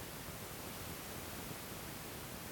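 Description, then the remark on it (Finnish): A steady, hissing roar of waves rushes on without pause or distinct breakers, soft, with no voices present. “En muuta kuin kohinaa. Humina, pauhua, aalto ja konevat.”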